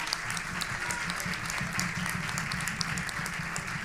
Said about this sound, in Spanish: Aplaudo, aplaudo, merecido.